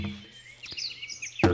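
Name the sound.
small bird chirping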